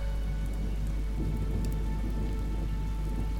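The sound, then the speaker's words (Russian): Rain drips steadily from fragrant, stirring leafy branches, a dense patter of drops, now softer, now faster, with a soft low rumble underneath, continuous, with no voices. “Алмазы дождевые, сверкая, капают то тише, то быстрее с благоухающих взволнованных ветвей.”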